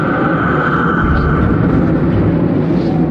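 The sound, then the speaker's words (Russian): A roaring tornado, a black whirling column moving along a road, rumbles in one continuous loud wall of wind noise, with a steady droning whine running through the deep, churning roar for the whole stretch. “что это? Смерч.”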